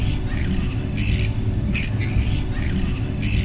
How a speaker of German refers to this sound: Um uns herum wird es auch schon stiller, nur die Fledermausschreie können wir noch hören.